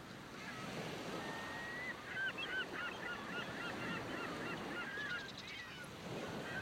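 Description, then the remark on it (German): Seagulls cry repeatedly, several overlapping calls rising and falling over a steady wash of surf and wind, with no one speaking. “In meiner Fantasie höre ich die Möwen lachen.”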